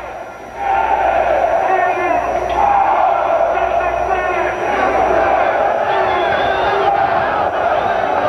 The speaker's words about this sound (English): The man doing the speaking is wearing a bright red robe. He's just gotten several very loud responses from the crowd. Typical rabble-rouser type talk.